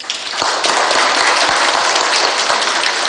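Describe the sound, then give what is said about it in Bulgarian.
A crowd breaks into steady, loud applause for people being given awards, many hands clapping together in a dense, continuous wash of sound that swells at the start and holds for a few seconds with no voices. “Моля вашите аплодисменти за тях.”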